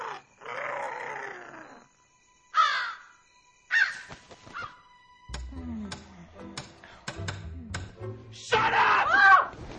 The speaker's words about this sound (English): Oh, darn it! Stupid crow.